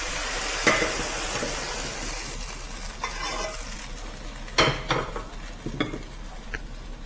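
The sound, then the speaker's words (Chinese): Steady sizzling from a hot wok, broken by a few sharp metal scrapes and clatters of a spatula as stir-fried asparagus with Chinese yam and goji berries is scooped out. Clear, with no talking. “OK， 好，这时候我们就可以起锅咯。”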